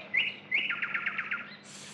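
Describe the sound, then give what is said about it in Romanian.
A nightingale sings clearly from the tallest tree: two bright whistled notes, then a rapid, rhythmic run of repeated chirps, heard alone over a faint low background hum. “Auziți? Cântă privighetoarea.”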